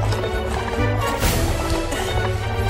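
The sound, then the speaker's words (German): A runaway horse's hooves gallop at a steady, rapid rhythm, loud, with a dense rumbling background and no voices. “Ich dachte schon, der Gaul wollte über alle Berge.”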